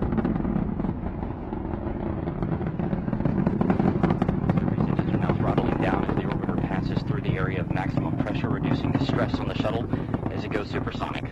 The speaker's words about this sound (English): The sound waves are getting really strong right now. The ground is shaking, and Shuttle Discovery is hurtling towards the International Space Station on its 39th flight from the Kennedy Space Center.